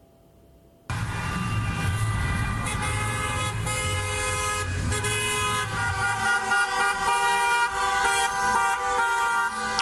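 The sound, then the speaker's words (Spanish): Many car horns blare together in a loud, sustained chorus that starts abruptly and continues without pause, overlapping tones layered over low engine rumble, with no talking. Temporary public workers protest in a car convoy in Madrid, Spain, their cars decorated with yellow and black balloons. “Los manifestantes marcharon en sus autos adornados con globos amarillos y negros, con carteles, con sus reivindicaciones, rechazando las condiciones precarias laborales en Madrid y en otras 26 ciudades españolas.”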